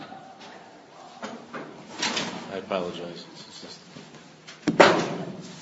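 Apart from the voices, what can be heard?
door being closed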